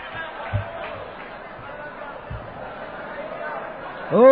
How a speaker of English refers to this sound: My Lord, have you ever seen a more excitable crowd in your life?